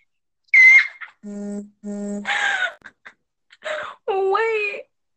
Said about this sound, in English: My phone just vibrated. Not right now. Pipe down.